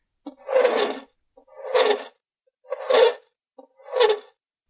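Four harsh, scraping strokes of fingernails dragged across glass, each lasting under a second with short pauses between, in a steady rhythm. The rasping is fairly loud and heard alone, without talking.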